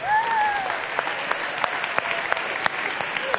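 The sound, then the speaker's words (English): An audience at a Christmas church service claps steadily for the cast, choir and worship team of Light of December, a dense wash of overlapping handclaps with a few sharper individual claps popping out, and a faint cheer or whistle rising at the start. “I want you all to give a big round of applause to the entire cast of Light of December.”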